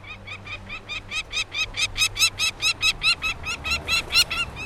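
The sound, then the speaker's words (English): A rapid series of harsh, repeated calls from a peregrine falcon, about twenty sharp notes in a steady rhythm that grows louder and more insistent, clear with no talking. “Elegant peregrine falcons now nest in many North American cities, where tall buildings mimic the sheer cliffs of their traditional nesting sites.”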